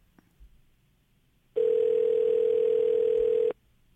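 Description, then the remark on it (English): A steady, loud telephone dial tone, heard after the other party hangs up on a call, hums at one unbroken pitch for about two seconds, starting and stopping abruptly after a near-silent stretch with a couple of faint clicks. “Tell him I'm mad at him for hanging up on me.”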